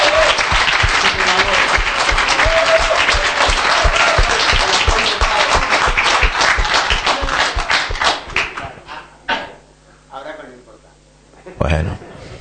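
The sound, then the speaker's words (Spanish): An audience breaks into sustained applause for a man's 65th birthday, dense and loud for about eight seconds, then thins out into scattered claps and fades, with a voice speaking briefly as it dies down. “O sea que le podemos dar un aplauso de felicidad, que lo cumpla feliz.”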